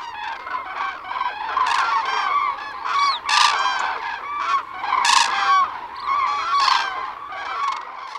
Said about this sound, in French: Le passage migratoire de milliers de grues.